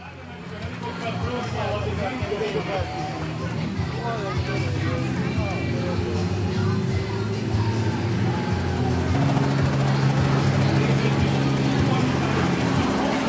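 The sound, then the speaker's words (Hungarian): A helicopter's engine roars steadily and loudly, low droning tones climbing slightly as it lifts off nose first, with a murmuring crowd and voices talking beneath the noise. “És sikeresen, hú, ez meredek volt azért, mert azért a rotor alatt nem igen lehet tartózkodni, mert a helikopter orral indul, és akkor az orral lelóg, de úgy látszik, hogy ez a pilóta remekül teljesítette a dolgát”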